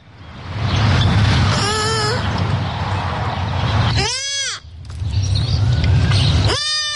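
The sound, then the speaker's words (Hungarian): A newborn roe deer fawn, lying hidden in the grass, calls its mother with high, thin bleats, three short cries spaced a couple of seconds apart, each with a sharp rising-falling pitch, over a steady low rumble of background noise. “A főben lapulva hívja anyukáját egy újszülött őzgida.”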